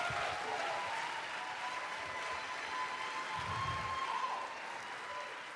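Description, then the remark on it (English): A crowd at a talk event claps steadily for several seconds to welcome the next speaker, a dense, even wash of applause that holds at a fairly loud level throughout with no talking over it. “A round of applause for Saul.”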